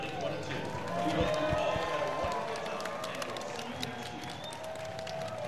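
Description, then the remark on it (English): A large Comic-Con 2022 convention crowd cheers and clamors as the convention floor officially closes, in a steady, dense wash of voices for several seconds, with scattered sharp claps and knocks poking through the din. “Did you hear that, Geekscapists? The floor is officially closed.”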